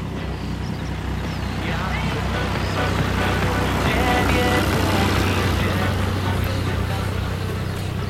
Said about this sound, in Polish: Za nami jedzie traktor. To bardzo dziwne, bo tą trasą bardzo rzadko jeździ cokolwiek.